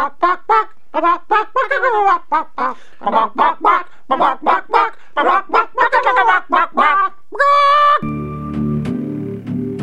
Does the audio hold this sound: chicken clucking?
yes